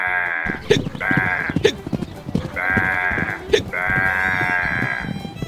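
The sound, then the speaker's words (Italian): A goat bleats loudly, four drawn-out, wavering cries in quick succession with brief pauses between them, over some low background rumble and clatter. “E allora la capra lo insegue.”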